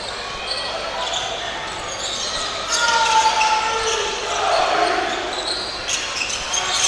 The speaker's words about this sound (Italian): Cinciarini, palleggio dorsale, palla per McRae